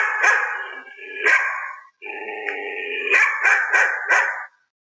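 A dog barks loudly: a couple of sharp barks, then a drawn-out howling bark, then a quick run of three or four yappy barks. No one speaks.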